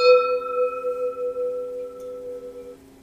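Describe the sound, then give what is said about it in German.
A single gong strike, struck to signal that it is time to drink, rings out clearly, a sustained metallic tone that holds steady for a few seconds before fading away, with no voices over it. “Ja, bitte, kommen wir gongen zum Trinken.”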